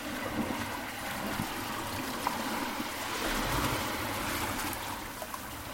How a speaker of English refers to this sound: Paddling.